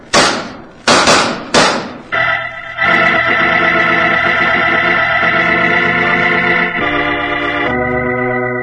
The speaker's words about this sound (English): Following that exchange of shots, Roger Prescott died.